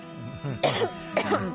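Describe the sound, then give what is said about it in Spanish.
Two raspy coughs about half a second apart, mixed with rough throat clearing, from a person who has suddenly started coughing while talking, over a faint steady hum with no talking. “A ver si puedo hablar, que me ha dado ahora tos.”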